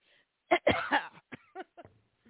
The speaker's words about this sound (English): I can't believe I just came on and just coughed all over the microphone. Thank goodness I'm the only one that uses it.